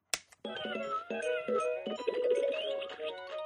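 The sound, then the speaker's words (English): A sharp click as an electronic toy cat is started up, then a bright electronic jingle begins as it sings its song, with tinny synthesized tones and a bouncy melody playing steadily from its small speaker. “you to listen to the song that he sings when you start him up.”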